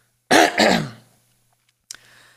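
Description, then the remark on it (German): A person clears their throat in two quick, rough bursts, followed by a brief faint breath or small noise after a pause. “Und jetzt muss ich mich einmal kurz räuspern.”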